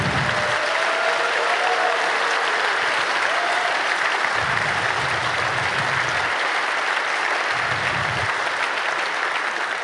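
A conference audience applauds the content committee and the speakers, steady applause filling the whole stretch, a dense wash of clapping hands at an even, fairly loud level with a few low rumbles underneath and no talking.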